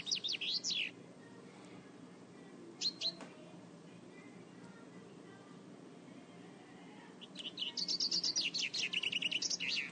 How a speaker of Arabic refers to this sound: هذا هو صوت الطير.